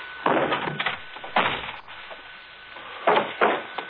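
An unlocked door is kicked open with a few heavy wooden thumps and bangs, spaced unevenly over a few seconds, loud, with no talking.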